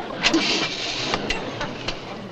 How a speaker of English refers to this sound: Turn ignition key to ignite car. Ignite car.